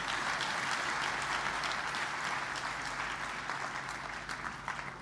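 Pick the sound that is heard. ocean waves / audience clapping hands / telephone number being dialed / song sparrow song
audience clapping hands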